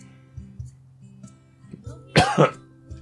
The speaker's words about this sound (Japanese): あ、咳が出た。